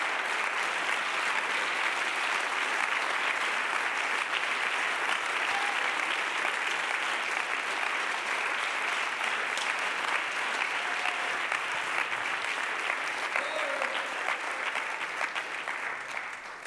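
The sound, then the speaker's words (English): A church audience applauds in a sustained, dense wash of clapping that stays loud and steady throughout, with no voices rising above it, before easing slightly at the very end. “I think we ought to applaud.”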